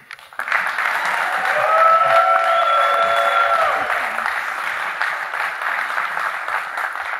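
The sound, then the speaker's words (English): An audience at a WUWM U.S. Senate Republican candidate debate applauds as candidates Kevin Nicholson and Leah Buchmeier are welcomed to the stage, steady applause that swells quickly and holds for several seconds, dense clapping with a few cheering voices rising briefly above it before it tapers slightly. “I wanted to let you know that was your one and only time to applaud the candidates.”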